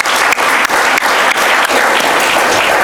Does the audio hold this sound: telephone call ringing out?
no